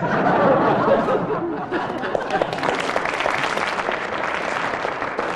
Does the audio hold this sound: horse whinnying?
no